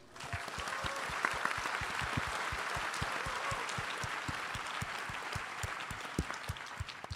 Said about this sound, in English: So please join me in giving a warm round of applause